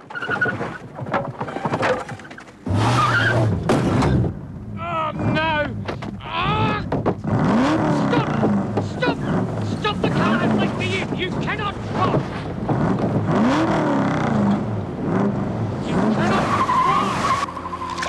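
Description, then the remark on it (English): A car reverses and hits a wall: the engine revs hard as tires skid and screech repeatedly, loud, with wind rushing across the microphone throughout and brief voices mixed in. “Dwayne reverses the car and hits a wall.”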